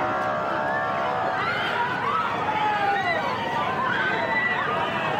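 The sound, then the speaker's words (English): A dense outdoor crowd facing off with police near the corner of Hastings and Main roars and shouts continuously, many overlapping voices yelling with a steady, agitated din and no clear pauses. “A large crowd faced off with police before punches were thrown and projectiles aimed at officers.”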